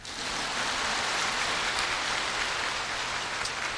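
A crowd applauds steadily, a dense crackle of many hands clapping at an even, sustained level for several seconds, with no voices over it.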